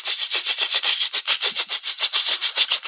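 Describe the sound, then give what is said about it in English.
Steady, rapid mechanical chatter of a teletype printing as a message comes through, about six hissy, scratchy bursts per second in an even rhythm, moderately loud with no voices. “Something's coming through on the teletype. I can hear you typing.”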